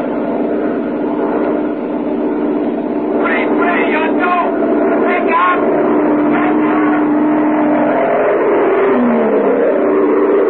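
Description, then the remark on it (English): Airplane engines roar in a steady, heavy drone as the aircraft climbs back into the sky after a failed landing approach at Tempelhof, heading back to Wiesbaden, 300 miles away in the American zone. A low humming tone runs underneath, with brief indistinct voices partway through. “Why, the pilot took his plane back into the sky after the approach failed and headed back for Wiesbaden, 300 miles away in the American zone.”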